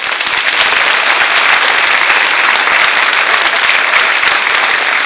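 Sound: audience applause in church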